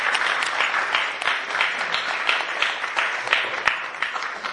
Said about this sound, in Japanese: 委員長に、絶大なる拍手と感謝を送りたいと思います。ありがとうございます。